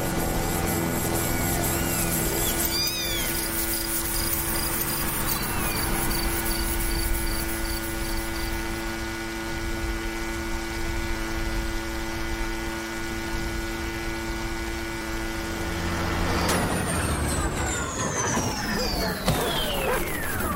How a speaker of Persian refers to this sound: هر وقت از کنار یه ماشین رد بشید این صدا رو میشنوید.